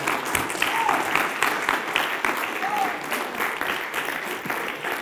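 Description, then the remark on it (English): An audience breaks into steady, loud applause, giving the Lord a hand clap in thanks, many hands clapping in a dense continuous patter for several seconds, with a few brief vocal whoops rising above it. “Give the Lord a hand clap and thank Him for it.”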